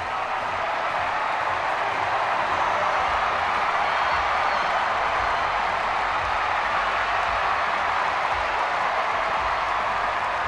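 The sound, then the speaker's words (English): A large crowd applauds and cheers without letup for former President Bill Clinton after his defense of President Obama, a dense, steady roar of clapping and voices that holds at the same loudness throughout. “He has the crowd on their feet there.”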